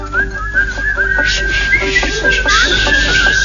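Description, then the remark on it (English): A group whistles a tune together, a steady, clear melody, fairly loud over a low background hum, with no one talking. “Everybody whistle.”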